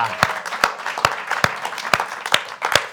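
An audience applauding, with loud, sharp claps landing in a steady rhythm about twice a second over a dense, continuous wash of clapping from the crowd.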